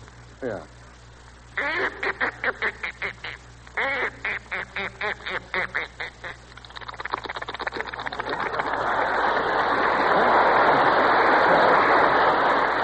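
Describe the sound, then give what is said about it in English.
A voice imitates a duck going into the water with a rapid run of nasal, rhythmic quacks, then shifts into a rising, hissing rush of noise like splashing water that swells loud and holds to the end. “First here is Duck Going Into the Water.”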